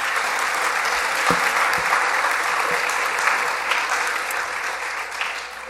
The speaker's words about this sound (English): You can clap. Yeah.